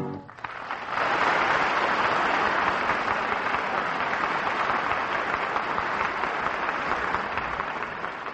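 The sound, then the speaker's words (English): A large audience at the Revue Mexicana bursts into sustained applause for guitar virtuoso Vicente Gomez, a dense, steady roar of clapping that swells within the first second and holds loud and even to the end, with no voices standing out. “The audience at the Revue Mexicana stops the show nightly with their applause for the great guitar virtuoso Vicente Gomez.”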